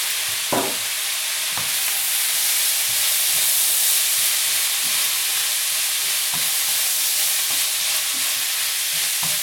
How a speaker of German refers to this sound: Ja, das zischelt ganz schön.